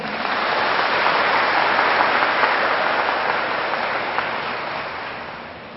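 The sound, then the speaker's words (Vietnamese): A large crowd claps loudly and continuously at the teacher's request during a talk on Vietnamese Buddhism, a dense wash of applause that holds steady for several seconds before gradually tapering off. No one speaks over it. “Cho thêm một tràng vỗ tay lớn nữa nào.”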